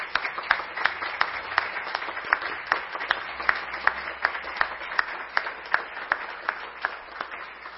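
An audience at a ceremony honoring the Military Police officer of the year of the 4th Company of the Military Police applauds steadily, with dense overlapping claps and a few sharper, louder hand claps beating out a loose, regular rhythm throughout.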